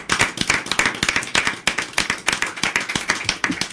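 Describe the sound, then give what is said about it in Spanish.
A crowd gives mutual applause, many hands clapping in a dense, steady burst of sharp overlapping claps that keeps going at an even, fairly loud level without any voices. “Nada, el aplauso mutuo.”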